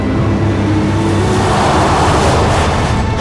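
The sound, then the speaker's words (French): A truck's engine drones steadily while water sloshes and hisses continuously beneath the tires as it drives along a flooded road barely above the water and reaches dry land, with no voices. “Le camion atteint la terre ferme.”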